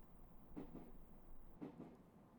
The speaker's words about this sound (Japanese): あれ、嘘、また電車の中、しかももう椅子に座ってる。